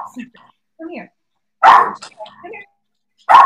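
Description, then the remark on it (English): A dog lets out two loud, sharp barks, spaced well apart, while a person speaks quietly in the gaps between them. “You're barking at the cat, maybe.”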